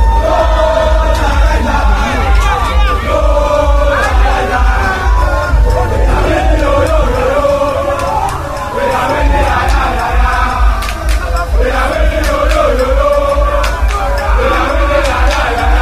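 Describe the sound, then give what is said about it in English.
A large, dense crowd of University of Ghana students cheers and chants loudly and continuously on campus in Ghana while escorting the president's convoy, with overlapping shouts, yells and whoops for the whole stretch. “Unfortunately for me, this is the very first time I've had to go through such a hectic crowd.”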